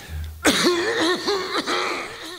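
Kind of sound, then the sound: human body sound, coughing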